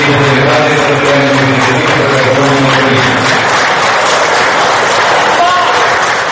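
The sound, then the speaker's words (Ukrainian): Loud, dense applause runs throughout while a crowd shouts "Shame" in unison during Foreign Minister Kostiantyn Hryshchenko's greeting on behalf of President Viktor Yanukovych at a forum's ceremonial opening. The chanting is strongest in the first half before the clapping carries on alone. “Але цей виступ супроводжували специфічні шумові ефекти, аплодисменти укупі з вигуками «Ганьба».”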